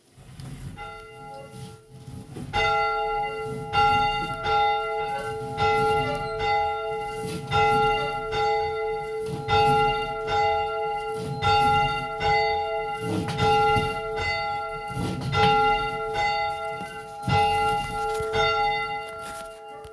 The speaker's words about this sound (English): And as we always do on Sundays and now on Wednesdays, we're going to begin our service with the ringing of our bell.